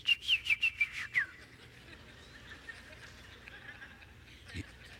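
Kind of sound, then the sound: vocal imitation, whistled imitation of birdsong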